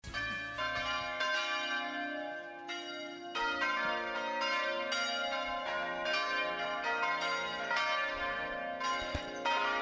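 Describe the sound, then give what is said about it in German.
Church bells in Tessé ring out in a steady, overlapping peal, their bright harmonic strikes repeating roughly every half second and blending into a continuous, resonant wash with no voices present. “Zum Abschied aus Tessé läuten uns noch einmal die Glocken.”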